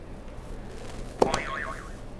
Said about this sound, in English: All right, do you want to hit another buzzer and we can move on?